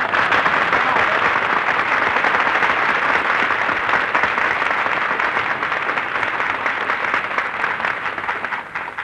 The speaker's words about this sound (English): That terrific applause you just heard, folks, is breaking Benny's heart.